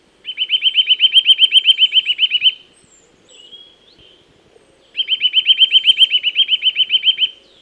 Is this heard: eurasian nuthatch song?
yes